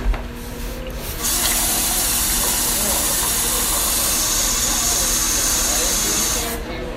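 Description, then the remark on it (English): Water pours steadily into a glass for about five seconds, a continuous hissing rush that starts abruptly and tapers off at the end, with faint background murmur. “Can I get some water?”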